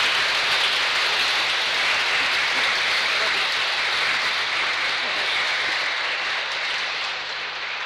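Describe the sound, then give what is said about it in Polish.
A large audience applauds in thanks to the performers of a program, including music school students and a singing and playing ensemble. It is a dense, loud wash of clapping that holds for several seconds before easing off slightly at the end. “Niech wyrazem naszego podziękowania będą nasze wielkie brawa.”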